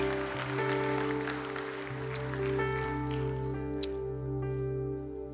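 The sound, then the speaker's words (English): An audience applauds steadily, a dense crackle of many hands clapping, over sustained instrumental chords that hold throughout; the applause of praise is for four people who said yes. The clapping thins out in the second half while the music continues. “Can we join with heaven in giving the biggest round of applause of praise for those four that said yes?”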